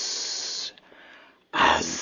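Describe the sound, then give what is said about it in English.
An adder hisses in two long, breathy bursts, the first steady and the second louder and harsher after a short near-silent pause. “The last words Raggy ever heard on this earth were uttered in the adder's sibilant”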